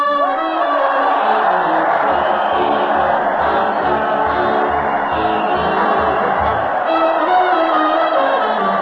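crowd cheering

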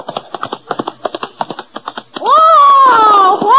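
horse hooves galloping

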